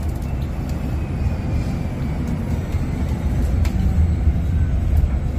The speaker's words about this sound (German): Auch für die Fahrgäste entsteht ein völlig neues Fahrgefühl. Der Bus ist einfach wesentlich leiser und damit eben noch komfortabler unterwegs. Und wer mal hören möchte, wie leise der Bus ist, bekommt jetzt noch eine kleine Hörprobe.